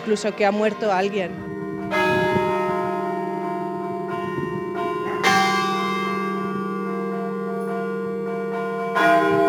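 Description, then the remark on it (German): Church bells in Albaida toll on a Saturday after the death of Pope Benedict was announced in Rome, with strong, ringing strikes at about two and five seconds, each leaving a long humming resonance that fills the space; a brief murmur of voices comes at the start. “So klang das Läuten in Albaida am Samstag, nachdem in Rom der Tod von Papst Benedikt verkündet worden war.”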